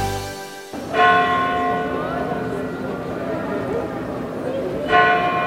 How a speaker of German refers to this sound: So klingt es, wenn in Santiago de Compostela hier direkt auf dem Platz vor der Kathedrale die Glocken der Kathedrale pünktlich zur Sendung von uns um 18 Uhr schlagen.